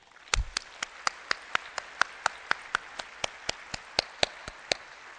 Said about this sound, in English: Ingrid could not be with us today, but she will receive the medal at the IEEE Medal Ceremony in August in San Francisco. But I do recommend we give her a round of applause in absentia.